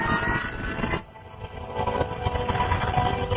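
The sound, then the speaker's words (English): The fourth jet engine of an airliner in flight, being reignited by the flight engineer, roars, falls away briefly to a quieter hum, then surges back up into a loud, steady, rumbling whine that holds to the end. “Once again, the flight engineer tries to reignite the fourth engine.”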